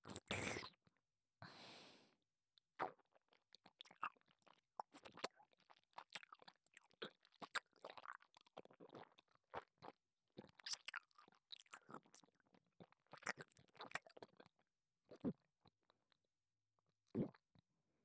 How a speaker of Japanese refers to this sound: では、この胸についた分から、いくつか。また、前回のように咀嚼するから、聞いてくれ。